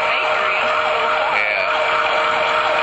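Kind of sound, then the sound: vehicle, emergency vehicle siren passing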